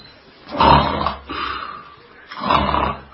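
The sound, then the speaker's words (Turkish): Two loud, rasping snores, each a rough guttural rumble lasting about half a second or more, separated by a quieter breathy pause. No talking is heard. “Aynen bunun gibi horlarken horlamanı duymuyorum.”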